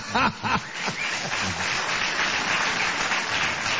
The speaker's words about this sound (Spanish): Ahí hay uno en el público, yo no voy a decir quién es. Sí. Ah. Es el que seguramente aplaudirá ahora, mire. Ahí está.